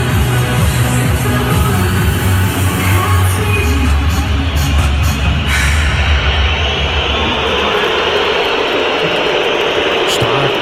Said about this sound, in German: wurdest du auch schon mal so ausgepfiffen wie …? Warte mal, lass uns mal ruhig nochmal reinhören.